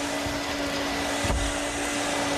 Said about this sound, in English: You're doing the travel, not the hoovering. Can you turn it off, please?